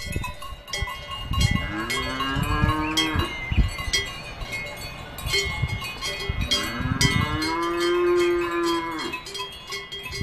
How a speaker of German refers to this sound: Ihr hört vielleicht ein bisschen Moon, ihr hört aber vor allem die ohrenbetäubenden Glocken, die man diesen Kühen umhängt.